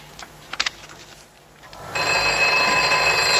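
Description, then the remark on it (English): After a few soft clicks and a brief lull, a telephone bell bursts into loud, continuous ringing as an operator calls back to test the line, carrying on steadily to the end, with no one speaking. “So she goes to get the phone because the operator is calling back to test the line.”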